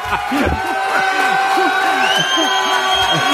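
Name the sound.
crowd cheering and applauding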